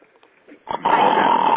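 After a brief quiet moment, one loud, harsh snore rasps in and holds steady to the end, a rough, growly rattle with no talking.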